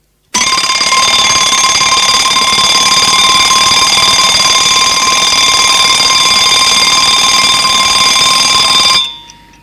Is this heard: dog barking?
no